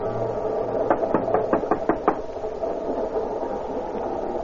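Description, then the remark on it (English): A quick series of about eight sharp knocks on a train compartment door, evenly spaced over two seconds, heard against a steady low rumbling hum that continues after the knocking stops. “Open up or I'll break the door in.”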